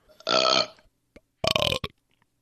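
Two loud, close burps, the first long and croaky, the second shorter with a quick guttural tail, separated by a brief pause with a faint click.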